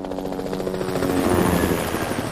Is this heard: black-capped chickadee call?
no